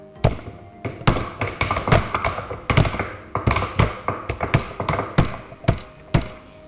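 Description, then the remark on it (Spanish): A long run of sharp, dull knocks on a wall, around twenty, landing in an uneven rhythm, sometimes in quick pairs or clusters. The blows are fairly loud and there is no talking. “Golpes en la pared.”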